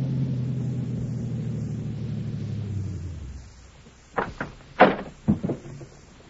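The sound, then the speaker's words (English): An overhead door rumbles steadily as it rolls for about three seconds, fades out, then gives a handful of sharp metallic clanks and thuds as it settles, with no voices. “Overhead door”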